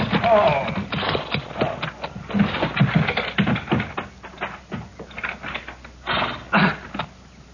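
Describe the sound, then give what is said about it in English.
The hooves of a peddler's lame horse clip-clop in a steady, uneven rhythm, fairly loud, continuing for several seconds as his wagon pulls into the yard. “My horse went lame on me other ways.”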